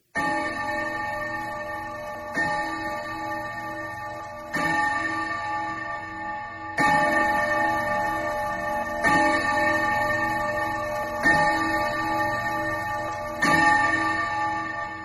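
A clock strikes seven times, each bright ringing chime arriving at a steady, unhurried pace and lingering into the next, fairly loud with no voices.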